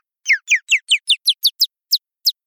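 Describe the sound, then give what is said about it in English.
A single mountain bluebird chirp, isolated from sound archives and pitched up as a vehicle sound to help locate the vehicle, repeats about ten times, each a quick bright downward sweep. The chirps come in a steady, slightly quickening run, then two spaced-out final chirps, clear, with no talking. “There was a richness to it, and so we isolated just one chirp of this bird in the background. And then we pitched it up”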